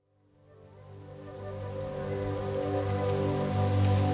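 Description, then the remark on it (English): Heavy rain suddenly falls from a clear blue sky, swelling in over a few seconds into a steady, dense roar, with a low humming drone running underneath; no one speaks. “Out of clear blue sky, a downpour.”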